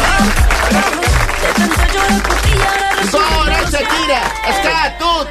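applause

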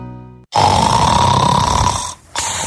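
snoring

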